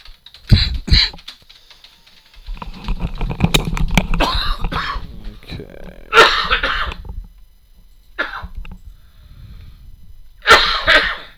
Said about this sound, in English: Okay. Really got to have that cough looked at